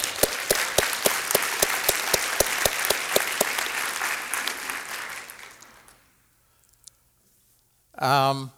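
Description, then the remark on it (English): A crowd applauds loudly for about six seconds at a talk on primary care, honoring primary care practitioners, a dense patter of many hands with sharp claps standing out, then the clapping dies away into quiet before a voice briefly speaks. “Those are the people who should get applause.”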